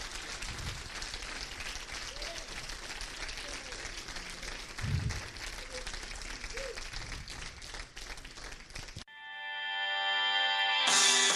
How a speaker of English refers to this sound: If you believe it, give Jesus Christ a hand clap. Come on, somebody. Come on, somebody. Come on.